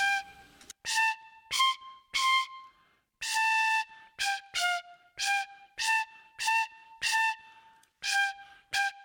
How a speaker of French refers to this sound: Seul le vent froid souffle sur les roseaux. Soudain, un sifflement monte dans l'air. C'est le vent qui fait vibrer un petit roseau.